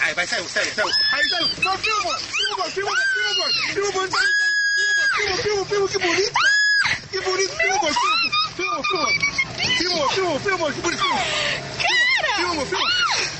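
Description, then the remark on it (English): A girl screams and shrieks loudly over and over as people on a boat poke at a snake about 14 feet long in the water with a stick, her high-pitched cries rising and falling almost without pause, with other excited voices mixed in throughout. “I would have pushed that girl yelling right into the water”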